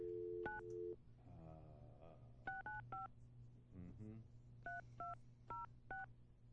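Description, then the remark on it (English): A series of telephone keypad dialing tones as someone dials a direct phone line, short crisp beeps in uneven bursts of one to four presses, with brief stretches of a muffled voice between them over a low steady hum. “I'm just going to, we'll go just to Ben's direct ultra special secret bat line.”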